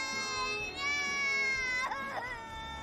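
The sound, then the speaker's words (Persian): A baby cries in a sustained, high-pitched wail that wavers and breaks into sobbing bursts near the end, fairly loud, with no talking over it. “شنیدم بعضی از بچه ها از بابا نوئل میترسن، ولی اونا کل روز رو دارن گریه میکنن.”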